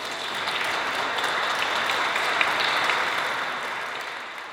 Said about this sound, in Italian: L'Orchestra d'archi del Conservatorio Tartini, diretto dal maestro Alessandro Torlontano e dal maestro Paolo Ciociaro. Un applauso ai maestri.